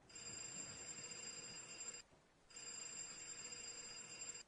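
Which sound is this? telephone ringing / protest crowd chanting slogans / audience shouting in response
telephone ringing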